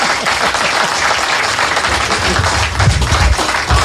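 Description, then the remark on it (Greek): Loud, sustained applause from an audience at a community election campaign event, a dense steady wash of many hands clapping for the full few seconds, with no voices standing out. “Τώρα μπορείτε να χειροκροτήσετε όλοι σας.”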